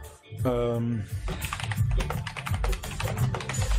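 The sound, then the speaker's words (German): A brief hummed, voice-like tone gives way to a rapid, irregular run of keystrokes on a new, very quiet computer keyboard, clearly audible, clattering steadily for a few seconds. “Die neue Tastatur ist spitze.”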